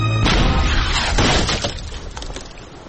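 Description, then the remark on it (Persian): A cannonball fired by Sinbad slams into Santiago's ship with a heavy booming crash, followed by a shattering, splintering clatter of debris that trails off over a couple of seconds. “سنباد گلوله خود افر کرد و در کشتی سینتیاگو خورد.”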